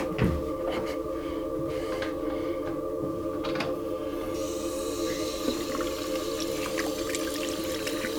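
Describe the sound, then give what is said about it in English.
A bathroom sink tap runs steadily with a pipe-like tonal hum, while occasional sharp splashes break through as a person scoops water and splashes it on their face. No one speaks. “I splash my face.”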